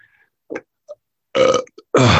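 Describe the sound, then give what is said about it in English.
A shaman gives a couple of short grunts followed by two loud, drawn-out, rough belches, with no one talking. “By the way, when a shaman belches, it's not rude, it's just energy clearing.”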